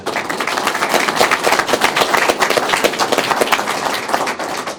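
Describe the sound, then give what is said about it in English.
A big round of applause from a crowd at a public meeting, applauding a pension report showing a 98% funded rate on pension liability; dense overlapping claps forming a steady, loud rattle that holds for several seconds with no talking over it. “And I think we deserve a big round of applause for that.”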